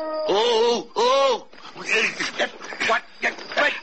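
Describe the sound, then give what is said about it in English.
Two short, wavering wolf howls rise and fall in pitch, each lasting about half a second, followed by a stretch of people talking. “It was a wolf.”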